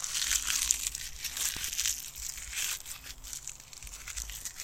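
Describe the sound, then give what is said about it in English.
Dry autumn leaves crunching and crackling, a continuous brittle rustle with sharper crisp snaps scattered throughout, with no voices. “Every single time I see a leaf that I think is going to be crunchy, I think of you.”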